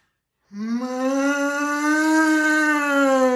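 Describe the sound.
A person imitates a cow with one long, steady moo that starts after a brief silence and holds for about three seconds, gently rising in pitch.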